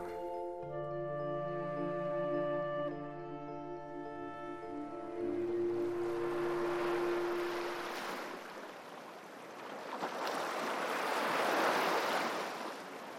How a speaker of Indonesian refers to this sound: Pikiran yang memenuhi kepalaku itu membuat pemandangan abstrak yang tercipta oleh hujan di lautan di tempatku berada terlihat bagaikan sebuah planet yang jauh.